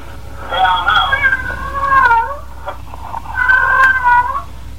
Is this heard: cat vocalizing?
yes